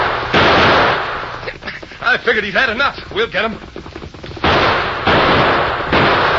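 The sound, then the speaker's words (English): Loud bursts of gunfire in a Lone Ranger radio-drama shootout, outlaws firing at the masked rider approaching on horseback, a harsh crackling volley at the start and another near the end, with a man's voice speaking tensely between them. “He's getting too close. Shoot the horse.”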